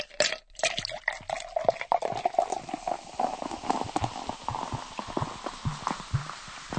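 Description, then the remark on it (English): Fizzy Whiz drink is poured into two glasses, a steady liquid stream under a dense crackle of popping bubbles that carries on for several seconds with no talking. “Horrid Henry offered Ralph a fistful of sweets and poured out two glasses of fizzy whiz drinks.”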